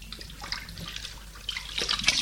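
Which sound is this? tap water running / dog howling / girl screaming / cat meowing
tap water running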